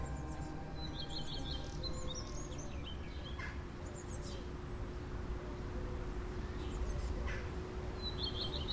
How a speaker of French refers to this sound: C'est des oiseaux qui ressemblent aux corneilles.